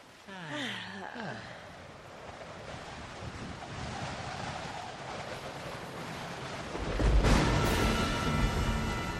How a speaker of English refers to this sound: Just enjoy the gentle swells of this lovely, peaceful ocean.